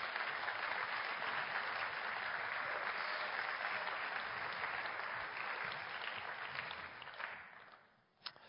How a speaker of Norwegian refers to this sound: så dere gi oss en applaus.